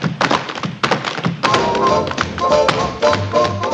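Rapid tap dancing by Donald O'Connor and Gene Kelly on a hard floor in a scene from the film Singing in the Rain: quick bursts of sharp, crisp clicks and heavier heel thunks in a lively, syncopated rhythm, with faint music sustaining underneath.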